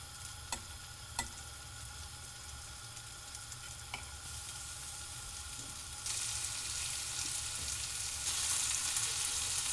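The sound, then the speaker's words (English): Food sizzles steadily in melted butter in a frying pan as it is browned on both sides, a crackling hiss that grows louder and brighter partway through, with a few sharp utensil clicks early on. “Now because they're quite delicate, I'm going to lift them up with a spatula and then just slide them into the frying pan.”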